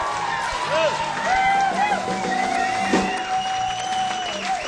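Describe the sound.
An audience applauds steadily for several seconds, a dense wash of clapping with cheering and whooping voices rising above it at an even, fairly loud level.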